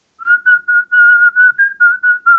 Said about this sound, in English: See, was that good? That's pretty good. Yeah, see, I can whistle.